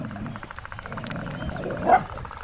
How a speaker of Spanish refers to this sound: El perro se pone tieso y eriza el pelo de la espalda. Atentísimo. En actitud de defensa y de escucha. Tiembla incluso. El gruñido sordo que hierve dentro de él se va haciendo más fuerte cada vez.